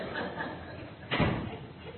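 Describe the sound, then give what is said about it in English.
A single soft thud of a door being pushed shut lands about halfway through, a short dull knock over a steady murmur of room noise and faint background voices. “I didn't let the door shut.”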